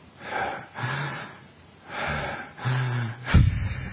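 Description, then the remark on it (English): Audible breaths out and in, demonstrating backwards breathing in breath meditation, repeated over a few cycles, some exhales carrying a faint throaty hum, ending with a sharper, louder gasping intake. “So try the opposite. Breathe out first and then in.”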